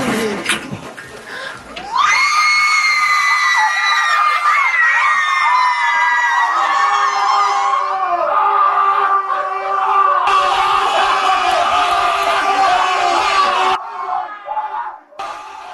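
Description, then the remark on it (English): In a Heineken walk-in fridge commercial, a group of men erupt into loud, sustained cheering and high-pitched excited screaming over a bunch of Heineken, whooping continuously for over ten seconds before trailing off. “The guys are going nuts because there's a bunch of Heineken.”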